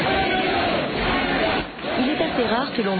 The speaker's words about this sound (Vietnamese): Sự kiện một đám đông huyên náo, ồn ào như thế ở bên trong Nhà Trắng rất hiếm hoi.